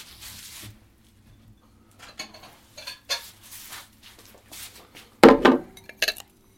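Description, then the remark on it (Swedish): Bowls of assorted sausages and salted sticks are set down on a table, a series of light ceramic knocks and clinks at irregular intervals, ending with one louder clatter and a final chink, with no talking. “Och nu kommer det alltså fram skålar här med korv av olika slag och salta pinnar.”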